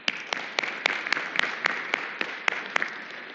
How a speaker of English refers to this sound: And we will recognize him and all sons and daughters who are here to celebrate and honor their mamas. And so let's applaud all who are here.